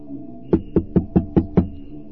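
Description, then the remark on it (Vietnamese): Six loud, evenly spaced knocks on the heavy wooden door of the large gate of Chakpuri, a monastery and medical school, early in the morning, each a sharp booming thud with a low resonant body, then silence. “Gõ mạnh vào cánh cửa một lúc thì một vị sư mặt mày hung ác xuất hiện.”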